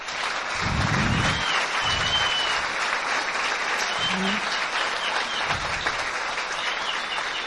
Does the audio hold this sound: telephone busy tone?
no